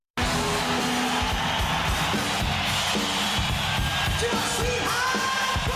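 A loud live rock recording bursts in abruptly, a dense wall of distorted band sound and pounding rhythm, with a crowd cheering and yelling throughout.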